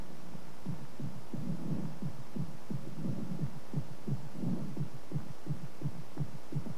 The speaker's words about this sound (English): All sounds can be amplified. Heartbeat can be made to sound like far-off drums in Africa.